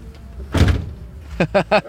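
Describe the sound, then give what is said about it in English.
The heavy door of a massive red vintage Cadillac, once owned by Johnny Cash and bought at auction from America, swings shut with a single deep, solid thud, followed a moment later by a few short voiced sounds from a person. “Oh, man, those big, heavy doors.”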